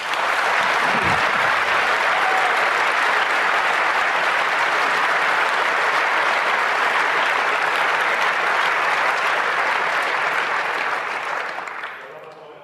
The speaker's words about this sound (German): Genau, ein herzlicher Dank und großen Applaus